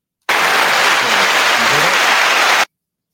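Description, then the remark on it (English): A loud burst of canned applause from option C on a sound pad, a dense wash of clapping that starts abruptly, holds steady for about two and a half seconds, then cuts off sharply. “That was your applause right there. I never use that option C on my sound pad, just for future reference, to give that applause.”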